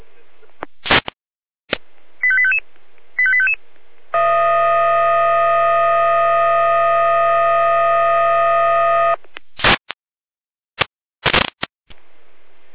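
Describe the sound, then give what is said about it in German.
A fire brigade alarm sounds: after a few sharp crackling clicks and two short beeping tone bursts, a loud, steady, buzzing alarm tone holds for about five seconds, then more clicks follow. It is a dispatch alert calling out help for several fallen trees on road L1070. “Hier leistet jener mit Einsatzalarm, Florian Serpa.”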